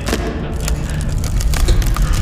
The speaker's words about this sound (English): Oh my god. I can barely hear it. The explosion was so loud.